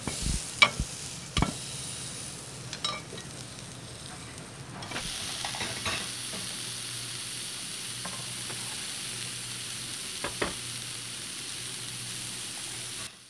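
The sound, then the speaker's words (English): Mushrooms sizzle steadily in a heavy, solid-metal pan preheated on a hot grill, a dense crackling hiss that runs throughout, broken by a few sharp clinks and scrapes of a utensil. No one speaks. “the key is to have it hot before, have it on the grill”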